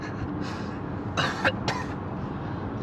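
A person coughs two or three times in a quick cluster, harsh and fairly loud bursts rising over a steady low rumble of background noise.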